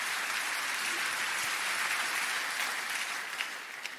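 An audience gives a big round of applause to the Holy Spirit, a steady, dense wash of many hands clapping at a constant level for several seconds, with no voices standing out.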